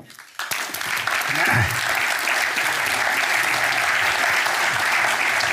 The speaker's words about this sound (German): Vor allem bitte ich nun aber um einen herzlichen Applaus für Jens Balzer.